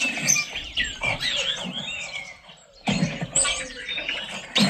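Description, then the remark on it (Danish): A busy spring dawn chorus of chirping, trilling songbirds in a garden fills the air without pause, while a wood pigeon's soft, low cooing sits beneath it. A brief lull comes just before the singing resumes. “Kom der også lige en forskud ringdu?”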